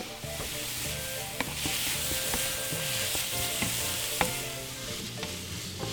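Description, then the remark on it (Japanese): Minced pork is stir-fried in a pan with garlic, ginger and green onion, seasoned with salt and pepper and a splash of sake. A steady sizzle runs throughout, with occasional sharp clicks and scrapes from a utensil as the food is stirred. No one speaks. “でここでちょっと炒まってきたところにお酒を少し振り入れます。”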